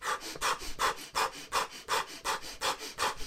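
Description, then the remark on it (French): Rapid, forceful breaths of an energizing breathing exercise repeat in a steady rhythm, roughly three per second, each a sharp airy huff, with no talking during the sequence. “parce que changer ta respiration, on l'a dit, quand t'es stressé, tu respires pas de la même manière, quand tu t'endors non plus, donc il faut te mettre une respiration énergétique, tu peux faire comme ça.”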